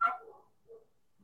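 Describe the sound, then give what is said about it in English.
A puppy lets out a sharp, high bark, then two softer whimpering yelps fade away in quick succession, with no one talking. “Are you missing a puppy?”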